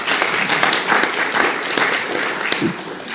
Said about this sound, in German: Einen Applaus bitte